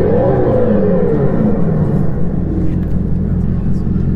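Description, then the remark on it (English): A synthetic V8 exhaust note from an electric car: a loud, deep, continuous rumble with wavering tones that rise and dip, holding steady for about four seconds with no talking. “But did the Model S have a fake exhaust sound which was as loud as a real-life V8 engine?”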